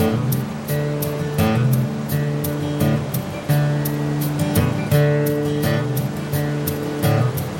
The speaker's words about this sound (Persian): در غرب ایالت نیویورک یکی از عجایب عظیم آمریکا آبشار نیاگارا، قدیمی‌ترین پارک ایالتی در ایالات متحده، سازمان یافته در 1885، جاذبه‌ای هماره. درست در مرز با کانادا در واقع دو گروه آبشار وجود دارد.